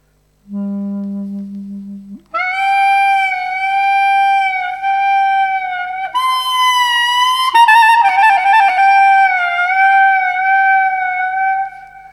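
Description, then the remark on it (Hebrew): A klezmer instrument imitates crying: a low held note, then a loud, wailing high line with sobbing pitch bends and slides, played alone without any talking. “ואיך הוא בוכה?”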